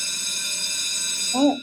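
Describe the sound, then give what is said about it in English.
A bell rings to mark the daily segment Democracy in Action, a steady, shimmering run of high tones held throughout, fading as a brief voice sound rises at the very end. “As true as the bell rings, that is our daily segment, Democracy in Action.”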